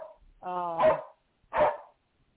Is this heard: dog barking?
yes